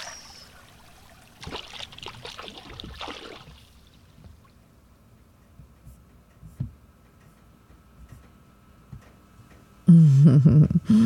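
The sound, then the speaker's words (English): A couple of seconds of trickling, splashing stream water rise up early on, then fade into near silence with faint ticks, before a loud voiced hum or murmur cuts in at the end. “Wash your face in the stream, forgetting all about anything else.”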